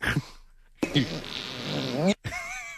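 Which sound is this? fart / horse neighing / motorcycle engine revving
fart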